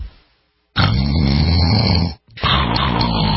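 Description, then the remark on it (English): A person snores loudly: one long, rasping, rumbling snore, a brief pause, then another heavy snore begins. No one speaks. “What if you could stop the snoring instantly without nose strips, mouth guards, or a procedure?”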